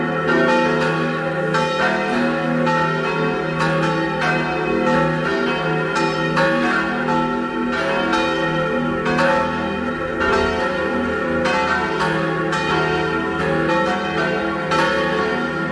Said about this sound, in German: Es ist 12 Uhr. Sie hören die Glocken der Kirche zum heiligen Nikolaus in Eck in Vorarlberg.